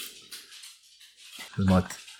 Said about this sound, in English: That is amazing. My dog tap dancing across a wooden floor.